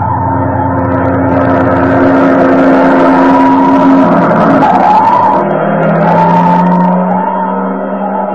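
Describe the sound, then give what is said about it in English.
A fire engine drives past, its heavy engine droning loudly and steadily, with the pitch shifting midway as it passes and rumbling on afterward as it heads to a burning building in the next block. No one speaks. “What's the matter? Fire engine.”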